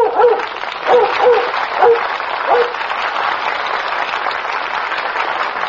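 Lassie, the Metro-Goldwyn-Mayer motion picture star dog, barks several times in quick, irregular bursts over the first few seconds on The Lassie Show from Hollywood, heard over steady crowd applause that continues after the barking stops.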